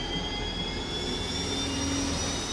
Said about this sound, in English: M1 Abrams upon engine startup sounds more like a military aircraft getting ready to take off.